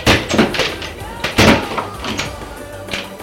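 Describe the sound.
Wardrobe doors being opened: two solid wooden knocks and thuds about a second apart, followed by lighter rattling, with faint voices in the background.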